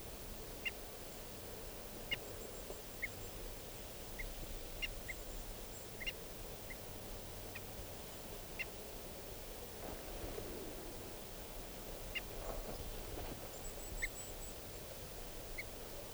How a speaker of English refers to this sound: And the decoys are giving alarm calls. This is the alarm of 395. There's an osprey flying around here.